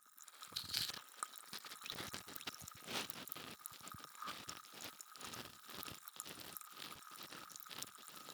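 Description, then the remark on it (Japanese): Crackling fizz of bubbles popping in the ear, a dense continuous sizzle with tiny irregular crackles and soft liquid ticks, steady throughout and fairly quiet. “耳の中すっきりするって。そうでしょう。これだけシュワシュワしてればね。”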